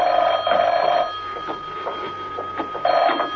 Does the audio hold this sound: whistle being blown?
no